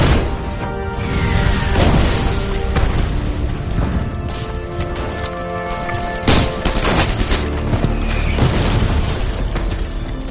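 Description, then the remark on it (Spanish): Artillery shells explode in a string of heavy booms at irregular intervals, each blast loud, over a constant dense rumble of battle noise with no voices. The precise fire forces German mountain division soldiers to take cover behind a dike. “Los certeros disparos obligan a los soldados alemanes de la división de montaña a refugiarse de nuevo tras el dique.”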